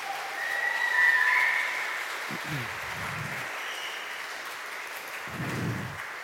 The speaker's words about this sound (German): Ja, wie gut war der Lobpreisteil? Ich würde sagen, wir geben mal dem Lobpreisteam, was hier eine wunderbare Arbeit macht, einen riesen Applaus. Ihr macht das so gut.